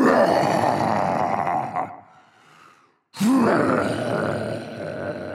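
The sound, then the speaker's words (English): A loud, growling dragon roar rumbles for about two seconds, fades into a breathy hiss as the dragon breathes fire, then after a brief silence a second roar bursts in and sustains to the end. “He opens his mouth wide and breathes fire at them.”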